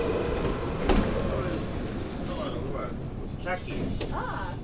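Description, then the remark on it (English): A train with a dog on board pulls into a station with a steady low rumble, a sharp metallic clank near the start, and faint squeals as it slows, while muffled voices murmur in the background. “This train is pulling up, and there's a dog on the train.”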